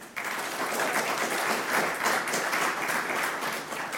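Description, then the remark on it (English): An audience breaks into steady applause, voting by applause for Rishi. A dense wash of many hands clapping at once starts abruptly and holds at a fairly even volume throughout, with no voices standing out. “Applaud.”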